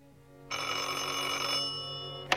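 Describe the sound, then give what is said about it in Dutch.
A porter's telephone bell in an apartment building rings once in a long, steady metallic trill, loud, then cuts off, followed by a brief click. “Pardon, de telefoon gaat.”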